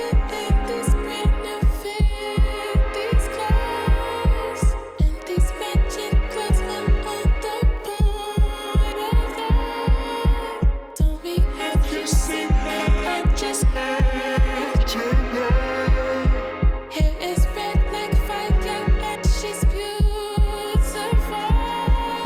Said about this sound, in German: Dazu kommt eine Elektro-Bass-Drum mit 4 on the floor